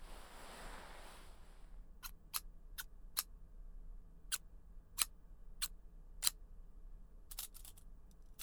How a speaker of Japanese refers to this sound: そう、ハサミ。